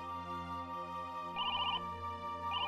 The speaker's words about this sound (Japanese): 着信確認、接続します。